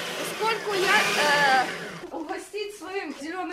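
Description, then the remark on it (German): A kitchen blender whirs loudly for about two seconds as an environmental activist makes a green cocktail, its motor whine climbing, then cuts out as a woman's voice starts talking. “Bevor sie sagt, warum, wirft die Umweltaktivistin den Mixer an.”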